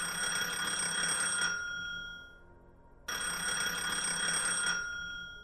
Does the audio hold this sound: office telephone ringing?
yes